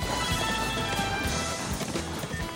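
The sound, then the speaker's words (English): Rapid, pounding hoofbeats of a horse galloping alongside a train, ridden by a man, drive through the dense, continuous rumble of the moving train, loud, with no voices. “He mounts a horse and is riding alongside the train when the children's mother calls his cell phone.”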